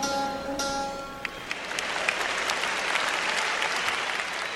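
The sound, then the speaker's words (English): The audience at a benefit concert bursts into sustained applause for a musician's instrument tuning, a dense, steady wash of clapping that swells after a fading tonal note at the start and continues loudly without pause. “Always be sure you know what you're applauding for.”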